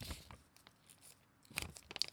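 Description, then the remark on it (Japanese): Quiet crinkling and rustling of origami paper being folded, with irregular soft crackles and a denser burst of scrunching near the end; no voices. “折り紙の音聞いてる？”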